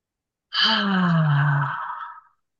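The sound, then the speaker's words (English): A single long, audible exhale, like a deep sigh, taken during a guided breathing exercise, voiced and sinking in pitch as it fades out over about two seconds, with no talking. “Just take a deep breath.”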